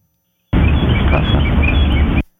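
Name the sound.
birds chirping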